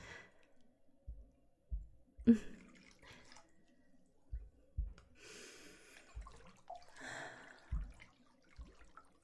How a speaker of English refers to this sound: Baby, the bath is ready for you. Come on, let's hop in and just relax. The water is very nice and hot.